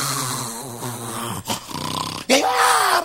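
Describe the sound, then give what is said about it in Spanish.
A voice imitates a child snoring in a bed: low, rattling drawn-out snores broken by a quick harsh snort, then a louder gravelly snore with a rising, buzzing tone. “Y cuando alguien bajó allá abajo, encuentra el niño roncando en una cama.”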